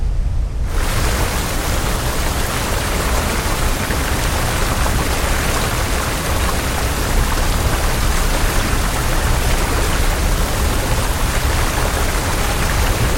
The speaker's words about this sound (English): Do you hear that? She gets up to take a look at a distant waterfall cascading down a cliffside.